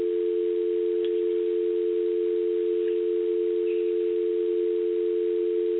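A steady, unbroken telephone dial tone from a phone left off the hook hums at a constant mid-low pitch for the whole stretch, loud and alone, with only faint clicks and hiss around it.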